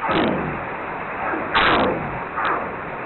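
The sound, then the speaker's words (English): Three sharp, loud gunshot-like calls of a North Pacific right whale crack through an underwater recording, each trailing a ringing echo, spaced irregularly over a few seconds with a steady hiss between. “Within our population, the most common call type is what's called the gunshot sound.”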